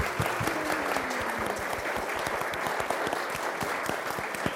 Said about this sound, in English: So we give a big round of applause for all the Bright Sparks children.